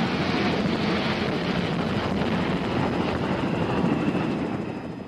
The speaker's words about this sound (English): What does a helicopter sound like? What does a fleet of helicopters sound like? What do planes going to war sound like? It's like locusts.